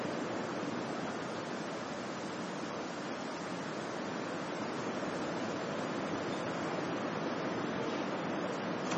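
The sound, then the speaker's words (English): Heavy rain outside during a thunderstorm pours down in a steady, dense hiss that stays even and loud throughout, with no distinct thunderclaps and no voices. “I think that's louder than the thunder and light and rain and lightning.”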